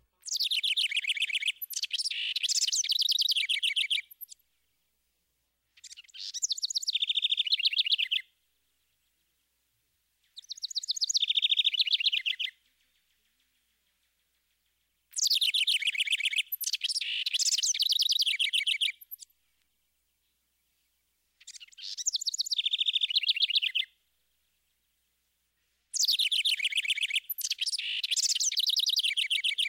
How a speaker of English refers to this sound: Now back to the song. Note how the house wren's repeated phrases seem to rise and then cascade down in a complex series of notes.